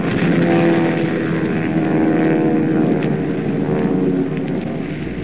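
A heavy, continuous drone of Nazi bomber planes' propeller engines overhead, loud and steady with layered harmonic hum, sustained throughout without speech.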